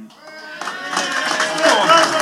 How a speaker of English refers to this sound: So I'm sure we need to applaud you boys for bringing us over to Bucharest for a start.